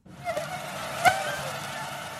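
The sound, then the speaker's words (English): A thin, high-pitched mosquito whine made by its wing beats drones steadily for a couple of seconds, fairly quiet, with a brief sharper burst about halfway through. “The buzz, made by its wing beats, helps the insects find mates and reproduce.”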